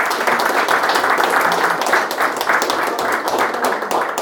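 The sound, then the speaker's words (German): Steady audience applause for an artist at an exhibition of his paintings, a dense crowd of many hands clapping at once, sustained at an even level throughout with no pauses. “Ja, herzlichen Applaus dir,”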